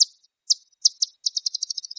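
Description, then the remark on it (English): Bat echolocation calls, slowed to be audible, start as a few widely spaced high chirps, then speed up into a rapid, accelerating train of clicks, a feeding buzz, as the bat detects and homes in on prey. “Those chirps you heard are the sound of a bat detecting and homing in on some prey.”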